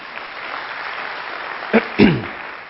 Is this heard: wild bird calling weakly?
no